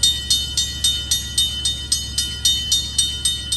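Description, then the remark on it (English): A train clock plays its hourly electronic train sound at 3 o'clock, a steady run of rhythmic clickety-clack pulses about every quarter second, bright and tinny like a chiming novelty clock, with no voices. “Train clocks can be found online, at retail stores, and at train shows on tables where other train nuts have been told by their spouse to get rid of that obnoxious thing.”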